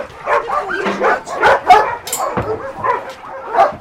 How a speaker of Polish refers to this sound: No jak my podjeżdżamy, to psy albo już czekają, albo zaczynają szczekać.